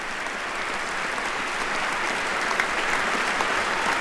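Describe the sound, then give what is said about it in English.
Sustained, dense applause from a chamber full of people on their feet, applauding the president at the lectern, a steady roar of clapping holding at the same high level throughout, with no voices standing out. “The president facing a chamber, all on their feet, all applauding the commander-in-chief.”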